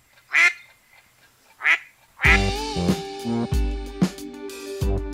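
duck quacking

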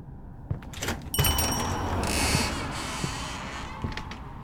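door creaking

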